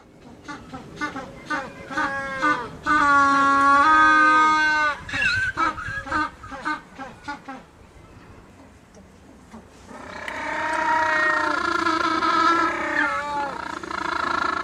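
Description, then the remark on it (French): African penguins bray in courtship, loud donkey-like honking calls with strong harmonic tones, two long sustained bursts separated by shorter rhythmic honks and a brief quieter gap. “Vous avez entendu le manchot du Cap. Cet oiseau, pendant sa parade nuptiale, pousse ses petits cris irrésistibles pour attirer mâle ou femelle.”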